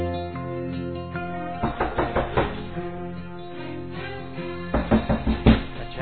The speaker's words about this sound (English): Our story begins in Monroe, New York, where Alexandra knocks on Lawrence's door.